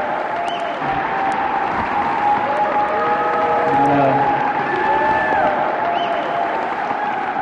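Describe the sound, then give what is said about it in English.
Sustained audience applause at Mission High School in San Francisco for speaker Jim Hightower, a dense steady wash of clapping that swells slightly midway, with faint whistles and cheers rising above it, lasting several seconds with no speech. “I am the one who should be applauding you for being out here tonight, fighting for America's democracy to take power back.”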